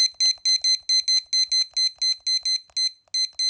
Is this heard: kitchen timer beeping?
yes